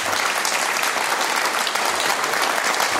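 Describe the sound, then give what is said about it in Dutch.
Steady, loud applause from a studio audience welcoming guest Han ten Broeke, chairman of BOVAG, the trade association for the automotive sector. Many hands clap continuously in a dense wash of sound without a break, with no voices standing out above it. “Ja, je bent vaker bij ons te gast geweest, maar zo'n applaus heb je nog niet heel vaak gehad.”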